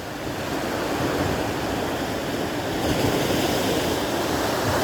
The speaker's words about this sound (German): Lausche dem Meer, lausche den Wellen.